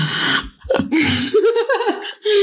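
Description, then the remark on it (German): A voice close to the mic imitates their own heavy snorting breaths, ASMR-style: a few loud, rough nasal huffs mixed with throaty, voiced grunts, spread over a couple of seconds with no words. “Ich habe mein Schnaufen gehört und ich muss schnell ASMR machen, dass ihr es hört.”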